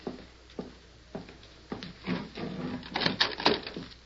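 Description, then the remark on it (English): A wooden door is opened: a few evenly spaced sharp knocks or footfalls, then a rattling, scraping stretch of latch and hinge noise that builds toward the end. “Keep your hand on your gun. You don't think it's... I'm not thinking. I'm playing safe. It's a law we'll riddle them. Open the door.”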